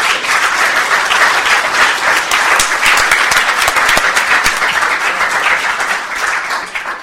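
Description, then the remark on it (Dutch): A large audience applauds steadily for about seven seconds, a dense, loud wash of many hands clapping at once that tapers slightly at the end, with no one speaking over it. “Dit verdient een applaus, denk ik.”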